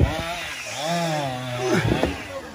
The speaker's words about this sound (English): They walked here with a chainsaw. From the nearest station, I guess.